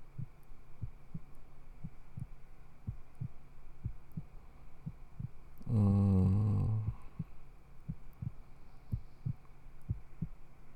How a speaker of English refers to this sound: Put your head right on my chest. Right there, baby. If I stay real quiet, I bet you can totally hear my heartbeat. Are you listening for it?